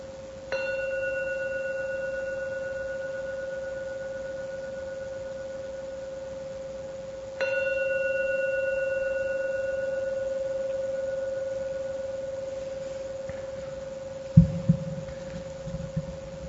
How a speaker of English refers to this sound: Gong three times. When the gong finishes its first ringing, so its third ringing, and the third ringing disappears, that is a signal to open your eyes, to end the meditation after the third ringing of the gong.